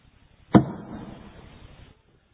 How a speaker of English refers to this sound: It was an arrow from a Philistine quiver.